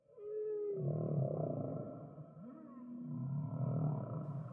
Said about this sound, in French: Parmi les vocalisations plus élémentaires qui ont été identifiées chez les baleines à bosse